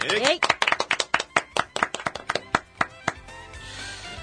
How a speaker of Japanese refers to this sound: はい、 はい、 拍手。